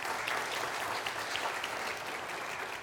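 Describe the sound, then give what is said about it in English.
A church audience claps steadily for the choir after its morning hymn, the applause a dense, even wash of many hands that holds a constant level for a few seconds without pause. “Can we give this choir a round of applause for letting God use them this morning?”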